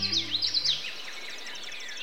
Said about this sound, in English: It's late April in the Northeast. You've just stepped out for a breath of spring air and, Hey, what was that? A tiny bird just whizzed by like a bullet. There it is over by those scarlet flowers hovering. It's a hummingbird.